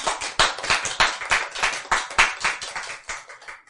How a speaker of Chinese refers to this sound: 这样赞不赞？拍手。